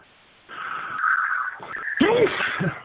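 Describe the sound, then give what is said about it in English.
A single sneeze: a rising, breathy intake followed by a sudden, sharp explosive burst with a brief voiced tail, fairly loud against faint background hiss, with no talking. “Bless you.”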